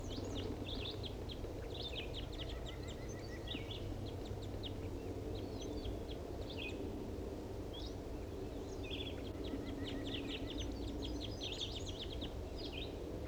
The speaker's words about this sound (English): Start recording that wild bird.